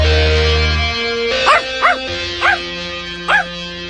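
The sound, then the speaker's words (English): A dog gives four short, yelping barks at uneven intervals, clear, over a steady low hum in the background. “whose dog is in there?”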